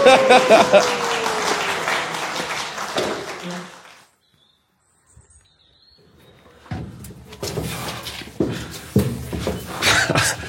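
A round of applause from a group, dense clapping that fades out, a few seconds of near silence, then a second burst of clapping rising again toward the end.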